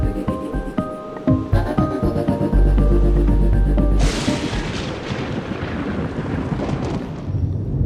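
Thunder during a storm outside: a deep rumble builds, then a loud crack of thunder bursts in and rolls off into a long, noisy decay, with a steady tonal hum running underneath throughout.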